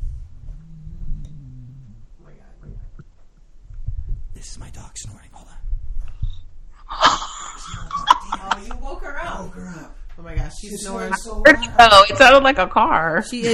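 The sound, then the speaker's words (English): Low, rumbling snores from a deeply sleeping woman come in a couple of slow, heavy breaths near the start, loud. Afterward people begin talking over the quieter background. “I can't believe that was her snoring. She's so loud.”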